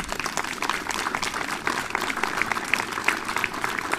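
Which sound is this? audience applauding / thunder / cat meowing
audience applauding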